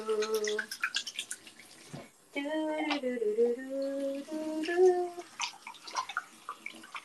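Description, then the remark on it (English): Water runs from a tap with a steady rushing hiss, joined midway by a ringing, pitched tone as the flow continues, then trailing off into scattered splashes. “Water is delicious.”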